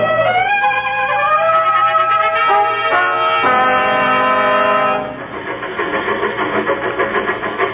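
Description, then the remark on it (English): A passenger train's horn blares loudly in a sustained, multi-toned chord for several seconds, then gives way to a steady rolling rumble and rhythmic clatter of wheels on the rails, with no talking. “I'm going to take the next train to Cheyenne.”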